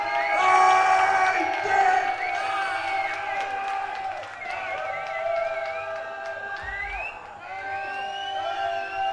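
A crowd cheers and whoops for about nine seconds, many high voices overlapping in a steady, loud swell, with scattered claps mixed in.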